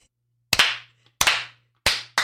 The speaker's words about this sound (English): Why do we have to do a fucking Wrigley Stadium clap? Why do we have to do a Hall of Fame clap?